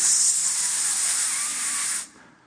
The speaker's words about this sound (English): I sprayed this spray. Well, it was really windy in Puerto Rico. And I sprayed this spray.